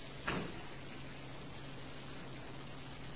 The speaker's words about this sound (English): would you please close that door, please?